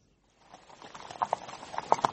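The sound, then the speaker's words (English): Hooves of two horses clip-clop in an uneven rhythm, starting faint and growing louder, with several sharp, bright strikes standing out toward the end. “See, both horses are ready.”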